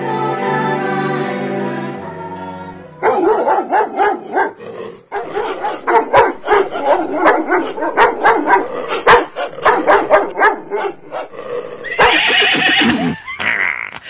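Dogs bark loudly and repeatedly in close, overlapping bursts for several seconds, framed by a horse's whinny at the start and again near the end.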